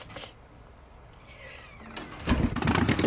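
After a few seconds of near silence, a motorcycle engine abruptly roars to life, its loud, rough rumble continuing to the end, as a man leaves a motel and rides off on his motorcycle.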